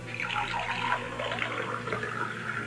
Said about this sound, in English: Now, pour the milk into it, okay? Okay.